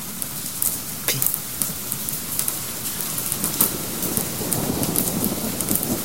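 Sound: rain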